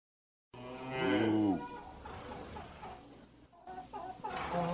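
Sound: cow mooing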